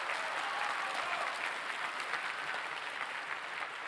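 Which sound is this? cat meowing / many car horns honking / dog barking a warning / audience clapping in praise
audience clapping in praise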